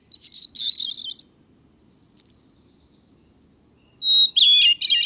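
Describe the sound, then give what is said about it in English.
A small brown mountain songbird sings two clear, bright phrases separated by a pause, each a fluid whistled run with warbling trills, distinct over faint background hiss. “You can listen again to this small brown bird and many others”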